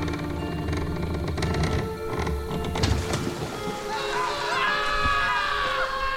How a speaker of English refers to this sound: You hear splashing into the water, and it sounds like the boat capsizes... And then you hear screaming.